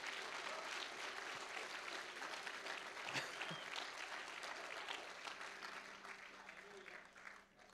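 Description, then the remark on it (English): A standing church audience breaks into sustained applause in praise of God, a dense wash of many hands clapping at once, holding steady for several seconds before thinning out at the end, with voices mixed in. “Come on, can you give Him a hand clap of praise that He came for you?”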